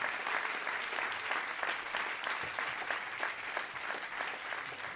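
Sustained applause from a large audience for a quiz winner, dense rapid clapping at steady loudness throughout, with no talking over it.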